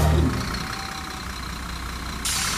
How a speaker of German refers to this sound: Ein Bus auf der Anfahrt nach Adorf. Das Ziel, der Platz neben der Danzenberghalle. Der Bus ist weder ein Schul- noch ein Reisebus, sondern in seiner Art einmalig.